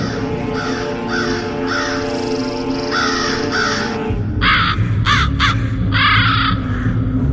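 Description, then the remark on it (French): A messenger raven caws repeatedly and loudly, harsh croaking calls coming in quick bursts over a low, steady ambient drone, with no voices present. “Le vizir Kouroustan attend le retour de son corbeau rapporteur, chargé de surveiller le prince du Dorpa.”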